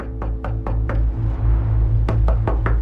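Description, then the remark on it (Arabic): Two bursts of firm knocking on the door of a house, about four raps each, separated by a pause, over a steady low droning background with no voices. “من أعلى جدار رأى رأس فتاة مغطاة بعباءة تمشي على بعد 5 بيوت، فانطلق نحوها بحذر لكي لا يخيفها، وقرر طرق باب البيت الذي تدخله ليسأل عن رجل البيت.”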